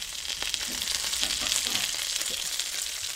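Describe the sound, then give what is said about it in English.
Chicken skin sizzles in hot rendered fat with no water left, only oil, a steady, dense crackle and hiss that holds even throughout, fairly loud, with no voices. “So the sound of the sizzle is completely different. Like the quality is because now it's just fat.”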